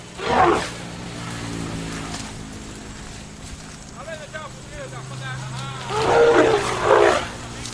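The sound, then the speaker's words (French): Two elephants at the edge of a road near the village of Serédou let out deep, roaring rumbles: one loud burst at the start and a longer one near the end, over a steady low engine drone with faint voices in between. “Les deux éléphants se trouvent juste au bord de la route, à proximité du village.”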